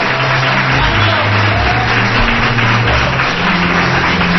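A crowd of schoolchildren at the Calasanz school claps and cheers together on request, a dense, steady wash of applause mixed with high shouting voices that stays loud for the whole stretch without pausing.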